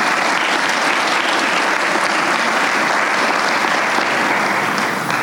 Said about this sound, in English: Let's give everyone who helped out a round of applause, please.